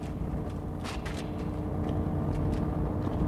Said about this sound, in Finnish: Ja on iso kuorma-auto.